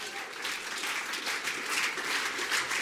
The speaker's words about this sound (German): Könnt ihr doch auch einen Applaus geben